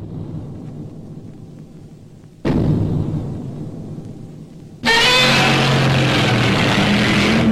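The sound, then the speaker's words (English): A low rumble gives way to a heavy, booming stomp, followed by a loud, shrill monster roar, a screeching, wavering cry: the original Godzilla roar from the 1954 film, made by dragging a resin-coated glove across the strings of a double bass. “Here's the original iconic Godzilla roar from 1954.”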